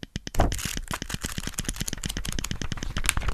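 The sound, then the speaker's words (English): A rapid page-rustling sound effect from a Kindle e-reader as its page-turn button is tapped very fast: a dense, fast run of crisp papery flicks and clicks, fairly loud, with no voices. “What's better, if you tap the button very fast, it makes that rustling noise.”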